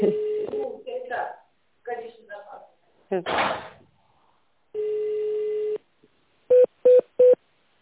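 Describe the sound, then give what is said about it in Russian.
The recorded voice of the West Siberian Air Transport Agency phone line speaks, asking callers to enter an employee's extension or wait for an operator; a long steady phone tone sounds, then three quick telephone keypad beeps follow in even succession, like an extension number being dialed. “Если вы знаете внутренний номер сотрудника, введите его, либо дождитесь ответа оператора.”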